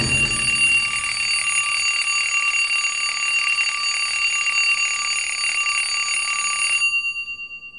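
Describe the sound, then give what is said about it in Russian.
An alarm clock rings nonstop with a loud, shrill, bright metallic tone for nearly seven seconds, then stops abruptly, leaving a brief fading ring. No voices. “И без 15:09 будильник неожиданно для себя женился на подушке.”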